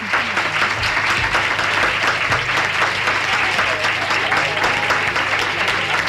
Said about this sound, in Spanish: Ya escuchan los aplausos, es porque está el Salón de Actos lleno de alumnos y alumnas de este colegio que están compartiendo hoy con nosotros este programa dedicado a la educación una vez más.